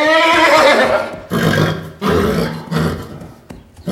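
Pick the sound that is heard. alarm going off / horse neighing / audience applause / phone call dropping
horse neighing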